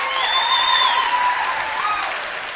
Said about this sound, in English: All right, let's see. All right, odds now. Clap as loud as you can.